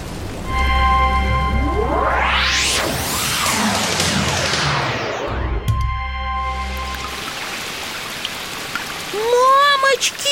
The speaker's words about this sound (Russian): Ого! Да тут залило уже все. А ливень как шел стеной, так и идет. Это не ливень, это потоп. Вода по улицам течет, лужи огромные, как озера.